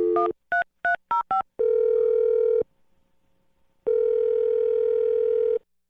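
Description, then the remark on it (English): A phone number is keyed in with five quick touch-tone beeps, followed by a long steady ringing tone, a brief silence, then a second ring. No one speaks; the tones are clear. “All right, we're going to dial the phone number right now and try and get your second date update, okay?”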